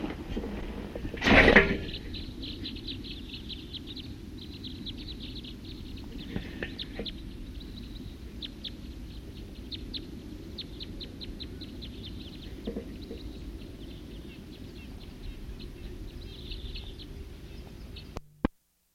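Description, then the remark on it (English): Wild birds chirp and tweet in quick, high-pitched bursts throughout, over a steady low rumble, with one sharp, loud knock early on and no one speaking. “Start recording a wild bird.”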